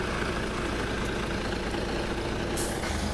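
A large bus engine idles with a steady low rumble and dense mechanical texture, and a brief hiss like an air brake release near the end.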